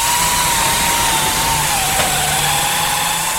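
A steady, loud machine whine fills a car body shop in Niederwangen near Bern as an apprentice car body painter prepares a car for repainting, a continuous power-tool drone with a low hum beneath and no voices.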